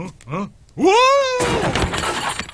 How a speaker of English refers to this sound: Yes, of course. That's a breakaway chair. I'm supposed to do that.